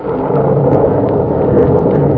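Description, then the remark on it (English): A loud, continuous rumble of thunder rolls on steadily for a couple of seconds, deep and dense without any clear break, and no voices are heard. “And God of the storm has answered.”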